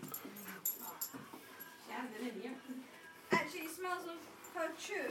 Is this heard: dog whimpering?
yes